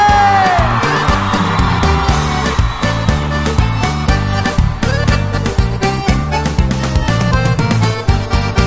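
Women in the audience at a live concert scream and whoop loudly over a dense, driving live band, the shrill cries rising together and sustaining through the music.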